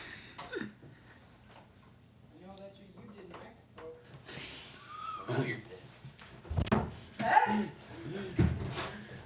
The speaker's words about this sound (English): They're tackling each other. They just broke down a door. Like, I'm not even joking. The door's probably broken.